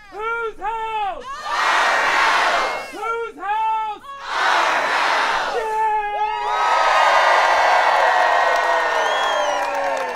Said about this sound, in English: As Liz McCormick reports, Saturday's Rockwool open house drew a crowd of hundreds who rallied outside to protest against the plant.